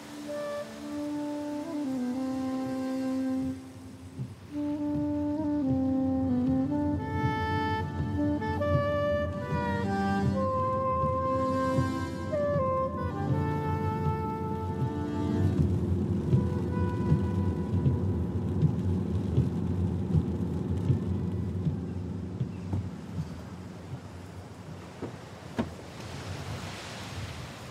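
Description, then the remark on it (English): Rain and gusting wind roar outdoors at the foot of the Reek, the mountain shrouded in mist, swelling into a heavy, rumbling wash in the second half, while a tonal melody plays over the first part before fading into the storm. “At the foot of the Reek, in the wind and rain, Kilpatrick.”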